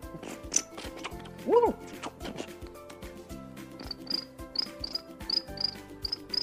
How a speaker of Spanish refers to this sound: Los grillos, por ejemplo, se ponían a preparar sus violines.